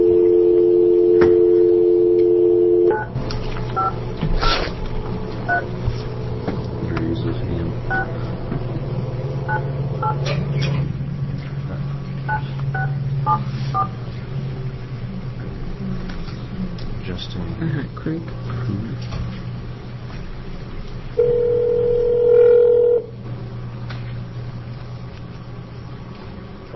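A steady telephone dial tone plays for a few seconds, then a long run of short keypad beeps as a number is dialed to reach a telephone witness during an Elections Ethics and Rules Committee hearing in Salem, ending with a brief tone, all over a low constant hum.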